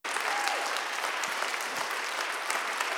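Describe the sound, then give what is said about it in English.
Sustained applause from a large church crowd honoring its pastors, a dense, steady wash of clapping that stays loud and even throughout, with a few scattered cheers rising out of it. “So before I begin, could we give them a round of applause and just honor the man and woman of God?”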